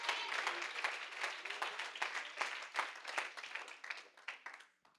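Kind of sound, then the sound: crowd, audience clapping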